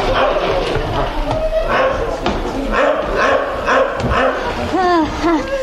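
A dog named Dingo, having sensed some creature nearby, barks in short, excited yips and whines, loud, against a busy, noisy background, with the yelps coming quickly one after another toward the end.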